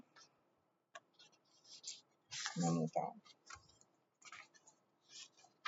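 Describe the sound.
Close, crisp rustling and shuffling of paper sheets in irregular bursts, with brief soft clicks, and a short murmur of voice in the middle.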